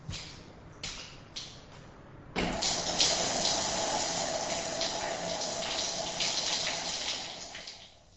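shower water running

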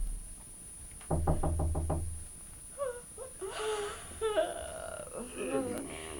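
knocking on a door

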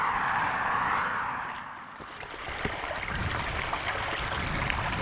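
brook water flowing

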